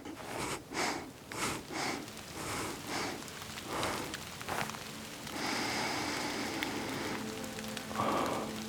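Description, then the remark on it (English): Rain pelts a hard surface in a dense, steady hiss, surging in uneven gusts at first before settling into a constant downpour. No one speaks. “I forgot about rain.”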